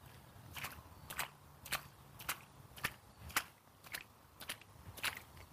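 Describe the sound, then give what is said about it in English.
Footsteps splash through puddle water from a faulty sprinkler in a neighborhood, at a steady walking pace, about ten sharp, bright, hissy splashes evenly spaced over a soft low rumble, with no voices. “I'm walking in the water.”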